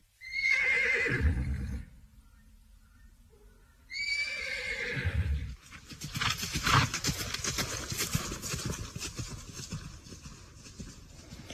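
A horse whinnies twice, each loud, quavering neigh sliding from high to low, followed by a steady run of rhythmic hoofbeats and rustling noise.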